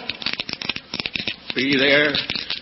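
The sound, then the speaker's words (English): Quick clattering of a pair of dice shaken together in a hand in rapid bursts and rolled, followed by a voice calling out briefly. “I promise I'll never touch another pair of dice as long as I live.”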